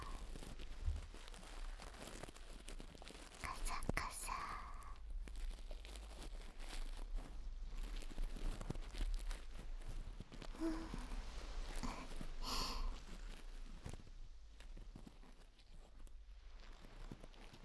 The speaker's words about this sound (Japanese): 不思議な音ですよね。何かが弾けるようなパチパチという音とカサカサという音、それが混ざり合って心地のいい音に。お耳掃除の音って奥深いですよね。